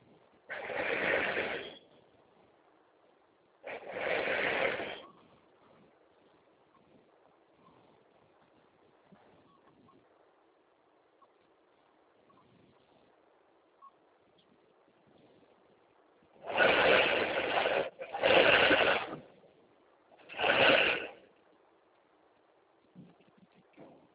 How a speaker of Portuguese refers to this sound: Esse barulho é o caminhão da Coca-Cola descendo de vida no bar.